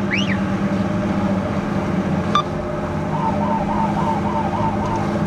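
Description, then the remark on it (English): A Coast Guard officer's siren, switched on with a swirling blue light to catch a speeding jet skier, whoops in quick rising-and-falling sweeps, then settles into a steady repeating wail over the loud, constant rumble of a motor. “flips on his siren and swirling blue light to catch a speeding jet skier.”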